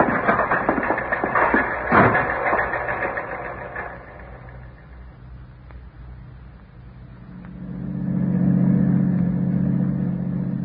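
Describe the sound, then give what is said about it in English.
A car drives along with a rough, steady engine roar that eases off after a few seconds, then a deeper droning hum swells up toward the end, as it nears an amusement park and camp area where it will be left at Watkins' store. No one speaks. “We can leave the car at Watkins' store.”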